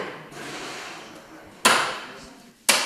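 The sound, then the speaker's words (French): Two sharp, light hammer taps on hail-damaged car bodywork during repair, about a second apart, each with a short ringing tail, over a steady low hiss with no one speaking. “Puis donc là, on entend des petits coups de marteau.”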